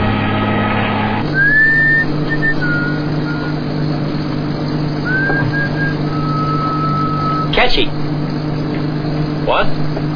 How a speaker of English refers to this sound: a tune you're whistling. Ta-ta-ta-ta. Ta-ta-ta-ta. Well, I didn't even know I was whistling. That's a sign you must be pretty happy.